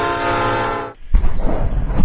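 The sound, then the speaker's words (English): A train blasts a long, loud horn, then a heavy rumbling roar follows as it rushes past on the tracks of a busy railway line, watched from the verge beside it. “Hello, I'm Ross Kemp, on trains, and I'm on the verge, next to a busy railway line, filming and viewing trains through my binoculars.”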